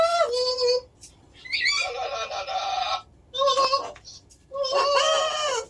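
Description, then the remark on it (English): A captive bird squawks loudly in four harsh, drawn-out bursts, each separated by a brief pause, with rising and wavering pitch and no other sounds around it. “Sometimes, it's just nice to have a friend to squawk on the phone with.”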